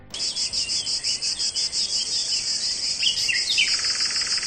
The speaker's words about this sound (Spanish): La banda sonora del verano. Pajaritos por un lado, las cigarras por el otro, el sonido de las cigarras que con el calor suenan y suenan mucho.